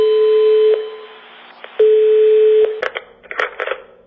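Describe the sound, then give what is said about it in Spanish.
A steady electronic phone ringback tone on a call to Spain's 016 gender violence helpline sounds in two long pulses, followed by clicks and a brief flurry of rustling as the line connects. No voices. “Para que la violencia de género nunca más deje esta señal, la sociedad tiene esta otra.”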